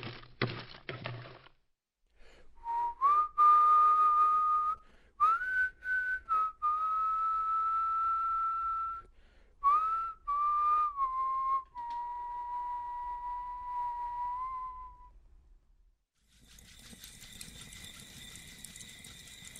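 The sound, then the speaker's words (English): A person whistles a slow tune alone, clear, with sustained notes and small pitch slides between phrases before the melody ends and a brief noisy sound follows. “Whistling superstitions.”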